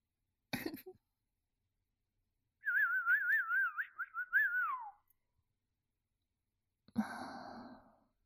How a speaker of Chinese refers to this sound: 主人的口哨声温柔地进入了你的心灵，还有你的骨髓。